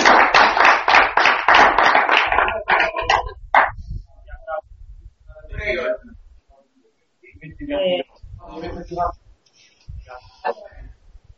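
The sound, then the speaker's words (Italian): A few seconds of brisk, loud applause, a steady patter of many hands clapping, that thins out and stops; a voice then speaks in short bursts. The applause welcomes the first contribution sent in via chat at a meeting. “Ah, sì, un applauso. E con un applauso.”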